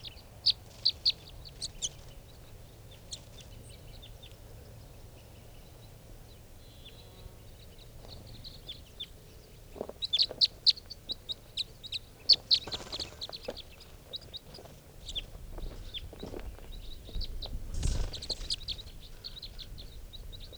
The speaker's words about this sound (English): Calling more, now coming back. And now they're all five are down on the ground. Recording these are the wild birds. Couple more coming back, and they're coming around the truck now. There's one of the birds on the ground.